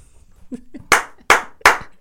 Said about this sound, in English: And like, I want to hear the slap.